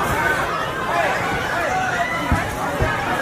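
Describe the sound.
A dense Black Friday crowd, waiting before the store doors open, murmurs and clamors continuously, many overlapping voices forming a loud, restless babble with occasional thumps and shouts, including a security guard yelling at people to calm down.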